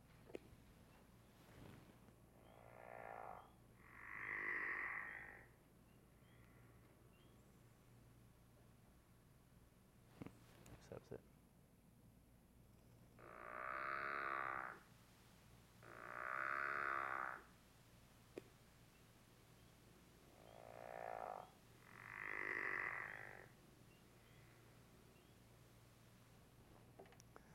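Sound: frog calling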